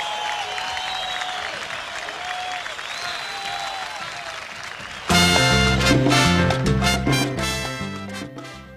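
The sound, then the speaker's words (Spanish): A crowd claps steadily for about five seconds, with scattered whistles and cheers over the dense applause, before loud music abruptly takes over. “Haciendo buena música, un aplauso.”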